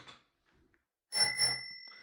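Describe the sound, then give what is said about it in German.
A bicycle bell rings twice in quick succession, bright and metallic, then its tone lingers and fades. The ring is clear, preceded by a brief quiet rustle. “Ja, dann kannst du auch klingeln, das passt doch.”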